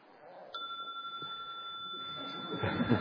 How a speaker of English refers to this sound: Okay. Very good. I thought, first of all, we will try this bell out, check it out, see if it works nicely here. See what it sounds like.